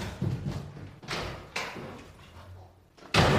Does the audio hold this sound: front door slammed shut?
yes